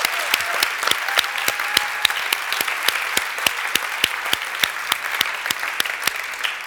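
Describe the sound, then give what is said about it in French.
An audience at a service claps steadily for several seconds to thank the volunteers, a dense wash of hand claps with sharp individual smacks standing out, evenly sustained without cheering or voices. “Est-ce qu'on peut les applaudir également?”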